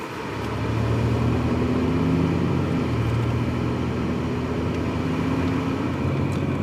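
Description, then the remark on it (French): A car engine drones steadily, its low hum shifting in pitch as the car pulls away from a crowded bridge in Baghdad, Iraq, and picks up speed over a constant wash of road noise. “La voiture doit repartir au plus vite et le chauffeur se dégage comme il le peut.”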